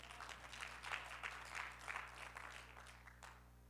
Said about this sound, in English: Y'all can clap right there. That's a good one, right?